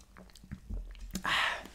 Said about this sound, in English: Let me grab a sip of my beverage, folks. Bear with me.